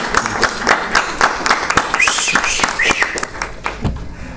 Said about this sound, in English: If we could give him a quick round of applause. Come on, this is Bloomington. We can do better than that.